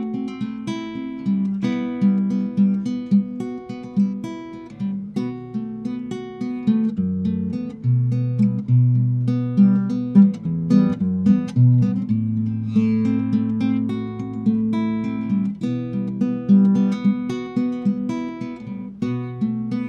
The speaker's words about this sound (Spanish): Siente las vibraciones de tu alma. Teponazcli. La música como una forma de sanar nuestro corazón. Teponazcli. Música medicina. Comenzamos.